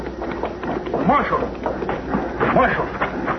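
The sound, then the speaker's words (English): A horse ridden off by a young man gallops away in a quick, steady beat of hoofbeats, fairly loud, with indistinct voices mixed in beneath the drumming hooves. “That young fella, the one that was hurt, he grabbed my gun out of my holster and lit out on that horse like the old Nick was after.”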